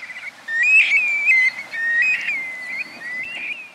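Calls of young black-bellied plovers migrating south together: a series of plaintive, slurred whistles, rising and falling, repeated several times in close succession over a soft background hiss, with no voices.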